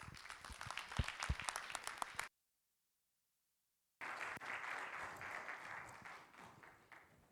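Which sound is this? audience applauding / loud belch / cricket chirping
audience applauding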